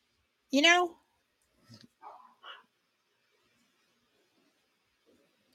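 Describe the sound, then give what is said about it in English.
A dog lets out one loud, high bark, followed by a few softer, shorter yips and whines over the next couple of seconds, then quiet. “My dogs are going crazy trying to figure out why.”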